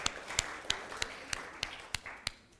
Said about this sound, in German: Oh, gute Männer, super. Geben wir diesen Männern einen Applaus, come on, ha, super.